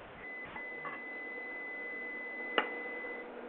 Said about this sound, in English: I'm hearing a beeping noise. Around. I know. I'm hearing a beeping noise too. Yeah. Yes. I don't know where it's coming from.